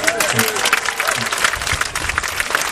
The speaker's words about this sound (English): But I know, worth a round of applause in itself.